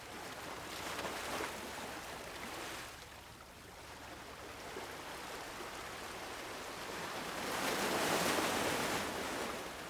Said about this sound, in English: Picture yourself standing on a quiet shore. The water in front of you is calm. It is reflecting the sky above. The waves move gently, rhythmically.